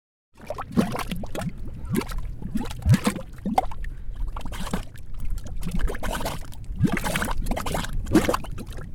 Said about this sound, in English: These are mud pots. They look like little volcanoes spitting up gray mud. You can only find mud pots in a few places around the country. That's because the conditions have to be perfect. You need geothermal activity to heat up water underground.